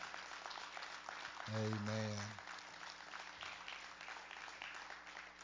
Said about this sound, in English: Let's give God a hand clap for these babies.